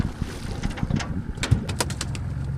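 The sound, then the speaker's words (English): The motor of Isidore's fishing boat drones with a steady low rumble as he points it downriver along a line plotted on his depth finder, while water splashes and hisses in brief bursts and wind buffets the microphone. No one speaks. “Isidore points his boat downriver and propels along a line he's plotted on his depth finder.”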